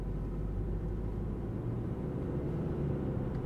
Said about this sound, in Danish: Sådan her lyder det, når jeg trykker på startknappen. Så kører det elektriske sæde i position, i den position, som det havde, da jeg steg ud af bilen, og jeg er parat til at køre, for den har altså også et elektrisk sæde.